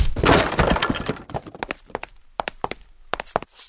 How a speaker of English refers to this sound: It looks like the door is unmarked. There are no clues here. We will have to break it down.